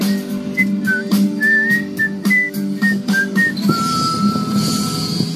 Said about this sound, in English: were you whistling?